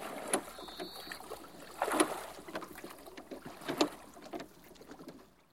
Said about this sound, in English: The small boat sails away, and Luis watches it.